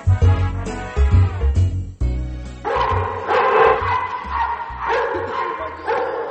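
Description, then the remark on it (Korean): Several big and small dogs bark and yip in a lively, overlapping jumble, fairly loud, with a busy indoor echo as they play together inside Dog Stay Out, a pet dog-care shop in Virginia, USA. “Dog Stay Out이라는 이름을 가진 가게 안에서 크고 작은 강아지들이 어울려 놀고 있습니다.”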